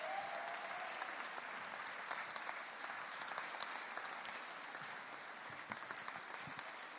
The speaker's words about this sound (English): But we need to give a huge, huge thank you again to our children. So I'm going to get them to stand up. Let's give them a huge round of applause again. Up we come.